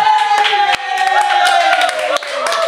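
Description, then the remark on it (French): A festival crowd at the Festival du Sucre in Erstein cheers loudly as the first monumental sugar float arrives in fine weather, sustained voices and whoops blending over scattered sharp claps, the noise staying dense and steady throughout without pause. “Toute la foule est en attente du... Ah, et voilà! Ouais!”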